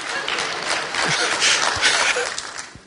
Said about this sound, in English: The lie is get. The truth is give. I'll let you clap for that, Mom.